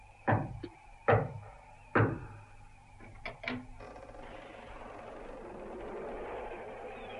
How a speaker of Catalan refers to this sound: Nens, us haveu tornat bojos. Com s'us acut trucant a aquesta porta?